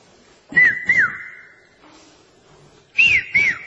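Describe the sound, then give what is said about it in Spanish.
A whistle is blown in two sharp double blasts, loud, the first pair trailing into a faint lingering tone before a brief pause and the second pair. “Nosotros tenemos el oído desarrollado para establecer la diferencia entre el pito oficial y el pito aficionado.”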